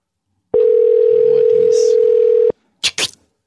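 A loud, steady telephone dial tone hums for about two seconds as a call is placed to Ira Glass, then cuts off, followed by a couple of short, hissy bursts.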